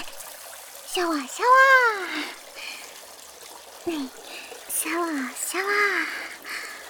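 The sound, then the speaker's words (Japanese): Shower water streams steadily, rinsing shampoo foam off a head in a soft continuous trickle, while a voice makes short, rising-and-falling vocal sounds over it several times. “泡を流します。”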